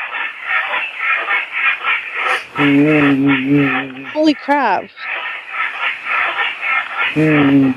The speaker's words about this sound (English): That sounds like a really noisy bed.